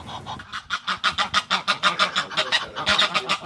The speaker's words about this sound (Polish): Parę gęsi, która w tym momencie, jakbym to powiedział, wita się ze sobą. To nawet widzi pani sylwetki, gąsior kładzie nisko głowę, ona dźwiga głowę do góry.